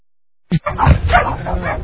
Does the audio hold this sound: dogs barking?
yes